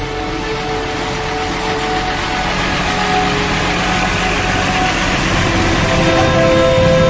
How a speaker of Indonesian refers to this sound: Tak lama kemudian, mobil pun berangkat.